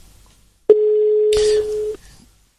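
A single steady telephone tone sounds for just over a second, a clear mid-pitched beep on an outgoing call placed to reach a caller who had dropped off, joined near its end by a brief burst of rustling noise.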